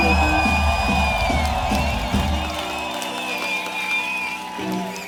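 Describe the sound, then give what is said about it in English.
A concert crowd in Madrid roars with cheers, shrill whistles and whoops, a dense, sustained wall of noise that eases slightly toward the end before swelling again. “make some noise for Liz on tour with us through Europe, all the way from Denmark”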